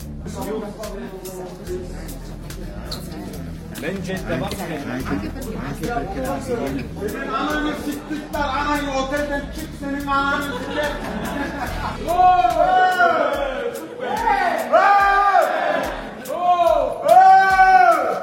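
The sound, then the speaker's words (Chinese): A group of drunk people shout and chatter over one another in the street, their rowdy voices growing louder and higher-pitched in the second half, with occasional sharp knocks. “刚刚的行为挺欧洲的，大家喝醉了之后就在路上大喊大叫，也不知道在说啥。”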